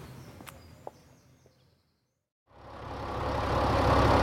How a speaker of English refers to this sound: Sounds good, doesn't she? I suppose this is the tractor you went to see yesterday. Another Belarus, and I managed to snap it up.